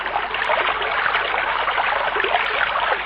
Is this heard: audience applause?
no